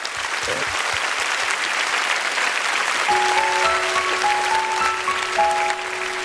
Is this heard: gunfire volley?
no